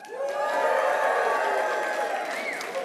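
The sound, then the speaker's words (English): A church audience cheers and shouts loudly for a few seconds for the Chiefs, a sustained roar of voices with whoops rising above it and no single speaker standing out. “Who's cheering for the Chiefs?”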